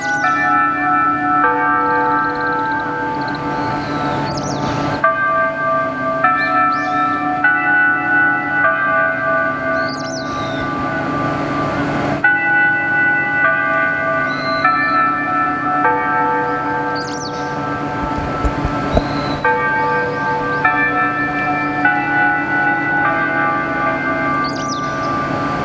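Church bells peal continuously at twelve o'clock in overlapping, resonant strokes, a full chorus of ringing that fills the space, with faint bird chirps scattered on top and no voices.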